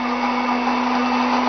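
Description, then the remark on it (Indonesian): A blender runs at full speed blending chopped grapes together with garlic, its loud, steady motor whine and whirring roar holding constant throughout, with no voices. “Anggur yang sudah dipotong-potong ini baru kita blender bersama dengan bawang putih.”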